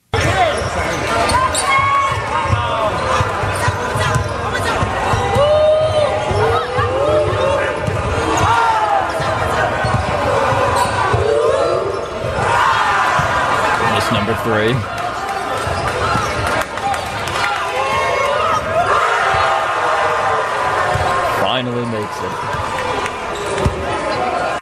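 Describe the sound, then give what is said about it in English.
A gym full of children shouts and cheers loudly and continuously over a bouncing basketball as a governor, escorted by Pennsylvania State Police, finally dunks the ball, their excited voices swelling in waves, with a man's voice briefly speaking amid the noise. “the kids react as though he hit a buzzer beater in Game 7 of the NBA Finals”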